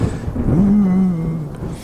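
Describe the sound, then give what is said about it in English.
A thunderstorm sound effect played behind a speaker: a deep, rolling thunder rumble swells and lingers for a couple of seconds, heavy in the low end and fairly loud, with no voices over it. “I could also have like a thunderstorm behind me, so sounds like I'm on a dark and stormy night.”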